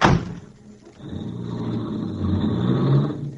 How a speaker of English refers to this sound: Here, I'll open the door. Well, thank you.